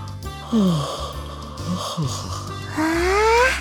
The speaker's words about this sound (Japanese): …でっかいあくび。 夕べ遅くまでテレビ見てたら眠くて眠くて。